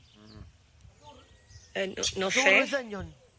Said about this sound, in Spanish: Pero es que la pájara sigue ahí como haciendo su ruidito.